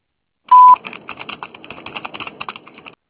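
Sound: voicemail recording tone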